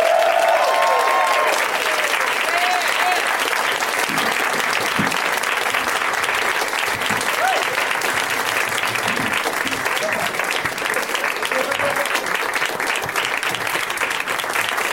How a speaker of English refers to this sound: It's very nice of you to keep applauding as they slowly trickle out.